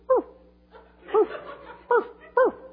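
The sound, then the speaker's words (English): A voice imitates a wiener dog barking with four short, yappy 'woof' sounds, the first alone and then three more in a quicker cluster, fairly loud against a quiet background. “Her first word was taken after our wiener dogs because that's all they do is bark.”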